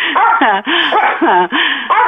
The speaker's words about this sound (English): Can you tell that dog to shut the fuck up? Oh, my God, I can barely hear you.